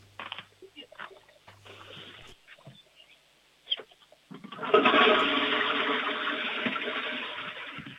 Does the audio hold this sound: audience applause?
no